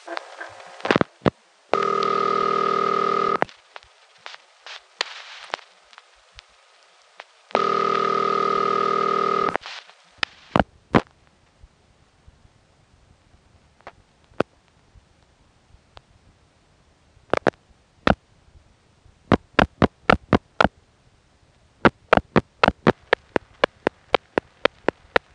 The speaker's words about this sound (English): 9972 was especially intriguing. It rang twice, and then it sounded as if someone was picking up and hanging up the phone over and over.